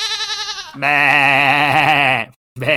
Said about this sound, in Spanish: Que, es que tú no sabes, no sabes si es el sonido de la cabra cuando está. Continúa. Bueno, sí, no, es claramente el sonido de busco apareamiento, es una cabra en celo.